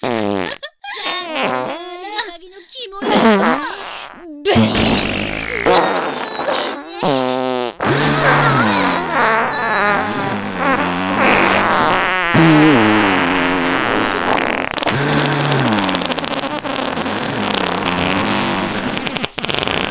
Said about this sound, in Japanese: ほら、く さい 屁 嗅げ。 くっさよ。